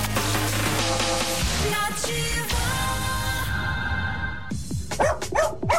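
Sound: dog barking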